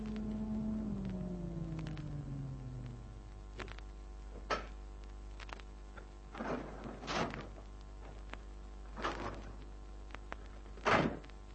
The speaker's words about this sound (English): 20 minutes later, I entered the Biltmore Arms building, took the elevator to the top floor.